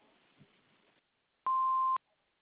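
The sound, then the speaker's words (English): A single loud, steady electronic beep about half a second long, following a brief stretch of faint background hiss, the kind that signals an answering machine has started recording. “after the beep.”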